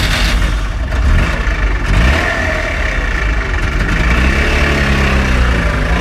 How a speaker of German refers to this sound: So lustig. Ich habe wirklich diverseste verschiedene Gefühle und Gerüche im Kopf und in der Nase, wenn ich dieses Geräusch höre. Richtig, es ist der Trabant.